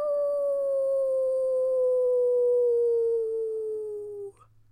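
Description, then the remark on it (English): Luna, a husky puppy, lets out one long, mournful howl in the backyard of her Edmonton home. The howl slowly slides downward in pitch, holding steady and loud for about four seconds before cutting off abruptly. “Luna, the husky puppy, sat singing a sad song in the backyard of her Edmonton home.”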